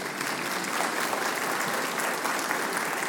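Steady, dense applause from a crowd at a religious service with a pastor, given for a person just after a prayer: a continuous wash of many hands clapping at even loudness for a few seconds with no voices standing out.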